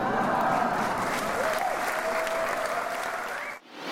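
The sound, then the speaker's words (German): Sustained, frenetic applause from a concert audience giving the performer a standing ovation after the last piece of the program, a dense steady wash of clapping that holds loud for several seconds before cutting off abruptly near the end. “Nach dem letzten Stück des Programms belohnte das Publikum … mit frenetischem Applaus und Standing Ovations.”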